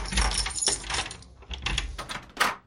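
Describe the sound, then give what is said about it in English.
A series of sharp, irregular raps and clatters at a door, several hard hits spread over a few seconds with a brighter metallic jangle near the end, no voices. “That's got to be Mr. Disclaimer at the door.”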